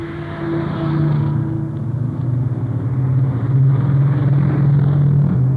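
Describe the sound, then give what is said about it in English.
The first convoy of heavy freight trucks rolls down a steep incline, past a boundary line and on toward Fairbanks, Alaska, in snow; deep engine drone and low harmonic roar sustained throughout, swelling slightly as each vehicle goes by, with no voices. “Here they come now, and as they pass our truck here, I'll let you hear them.”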